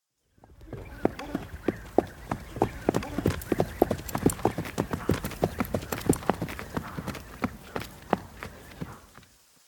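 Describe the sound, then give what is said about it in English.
Steady clip-clop of traveling horses' hooves on a hard surface, a rapid, regular rhythm of sharp knocks, continuing for several seconds with faint background ambience. “We've been traveling for a while now. I'm sure the horses are a bit thirsty.”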